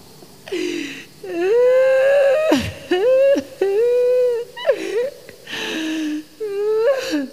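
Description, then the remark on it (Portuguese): Loud, wavering bawling like a small child, broken into about half a dozen drawn-out wailing cries with brief catches of breath between them, continuous for several seconds. “Se a história era triste, o soldado escondido abriu o berreiro como uma criancinha.”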